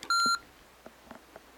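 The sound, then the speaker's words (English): A single short, loud electronic beep: the power-on beep of a Humanware Victor Reader Stream after its small round button is pressed and held. It is a steady tonal bleep lasting about a quarter second, followed by faint clicks and soft handling noises. “I'm going to press and hold this key for a couple of seconds until I hear the power on beep.”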